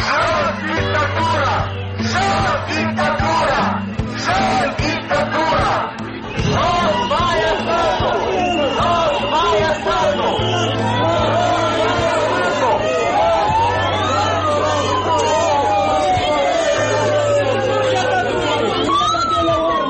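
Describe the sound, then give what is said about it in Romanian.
A dense crowd of Șor Party members and supporters protests in front of the Parliament, shouting and chattering loudly outdoors and demanding the government's resignation, a continuous roar of many voices, with a siren wailing and rising partway through. “s-au adunat să protesteze din nou membrii și simpatizanți ai Partidului Șor, cerând demisia guvernului”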